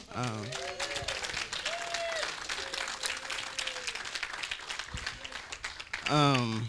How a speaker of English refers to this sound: Can we have a little round of applause for our pastor over here?